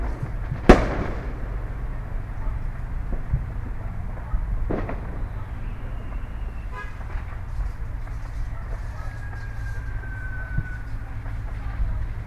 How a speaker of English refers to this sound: There's some stuff in the distance. I don't know if it's the downtown fireworks or not.